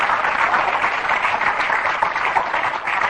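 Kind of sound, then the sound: crowd, audience hand clapping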